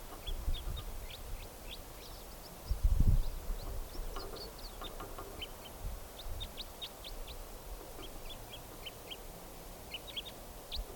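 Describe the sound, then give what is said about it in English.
A male bird at the very top of a tall larch tree gives a steady series of short, high, sharp chip calls, repeated in quick clusters throughout, fairly faint over a low rumbling background with no talking. “That's him giving calls now.”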